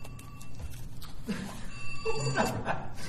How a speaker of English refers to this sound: Mine just rings like a phone. I gotta put that in buzz. I didn't because nobody ever calls me.